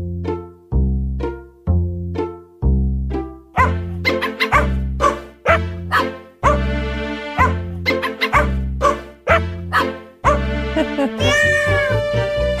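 A holiday novelty song built from meows and barks, with cat and dog sounds pitched into a bouncy melody over a steady thumping beat, growing busier and brighter toward the end.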